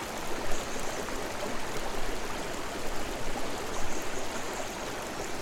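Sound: flowing river stream water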